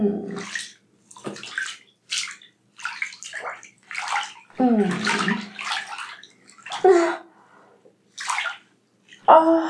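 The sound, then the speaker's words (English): Warm water sloshes and splashes in a bathtub in a series of irregular surges separated by brief pauses, with a few brighter splashes standing out. No one speaks. “My body feels wonderful in the warm water.”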